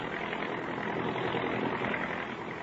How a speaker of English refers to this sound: Her face is marked with 88 years of living, but her sharp little eyes are alive with excitement as she peers out the window of a giant transport roaring out of the Omaha airport, westbound on a night flight.